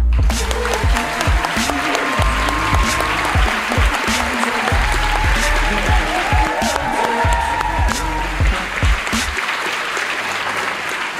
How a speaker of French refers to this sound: Merci d'applaudir chaleureusement quelqu'un qui a joué son spectacle ici plusieurs mois, mesdames et messieurs, Manu Payet.